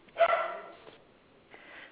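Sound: dog barking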